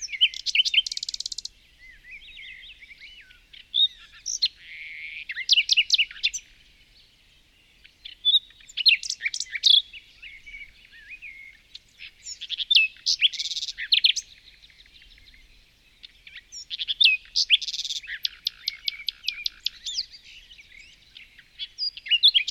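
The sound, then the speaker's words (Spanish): A small bird among branches sings in bright, high chirps and rapid trilling phrases, repeating in bursts with short pauses between them for the whole stretch, with no voices. “Entre sus ramas contempla un pequeño pájaro.”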